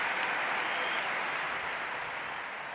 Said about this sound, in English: It has burned so brightly here in London 2012, but now it's gone. Huge applause all around the arena.